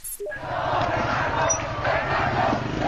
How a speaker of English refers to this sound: A sea of government supporters in Tehran, hundreds of thousands strong, cheering and marching through the streets to mark the 31st anniversary of the Islamic Revolution.